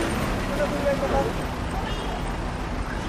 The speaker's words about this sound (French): On entend le marteau piqueur. Le klaxon.